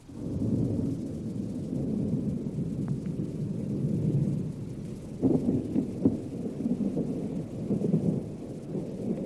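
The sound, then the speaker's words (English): Distant thunder from behind the cliffs, under heavy thunderheads before a cloudburst, rolls in a long, low, continuous rumble, swelling and settling with a few heavier surges partway through, with no voices present. “Pretty soon, here came a low growl from away back behind the cliffs.”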